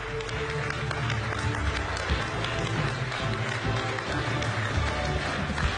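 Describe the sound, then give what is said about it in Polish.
A crowd applauds steadily as sixth place, Łódź Voivodeship regional councillor Marlena Sagan, is announced, dense clapping holding at an even level for several seconds with a low rumble of murmuring voices underneath. “Ogromne brawo.”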